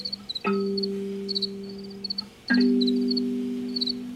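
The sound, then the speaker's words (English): Crickets chirp in short, high, rhythmic bursts throughout, while two deep resonant tones strike about two seconds apart and ring out slowly beneath them. “The cricket songs are like the real point of entry into all of that.”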